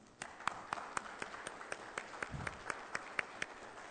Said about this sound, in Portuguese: E nesse momento eu queria pedir a todos aqui uma salva de palmas para ele.